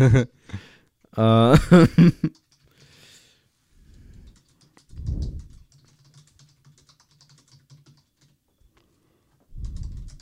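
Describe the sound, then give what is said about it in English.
Soft, irregular clicking of computer keys runs through the quieter stretch, following a loud burst of vocal sounds at the start, with occasional low thumps and mumbling. “Clack, clack, clack, clack. Hey guys, welcome to typing ASMR.”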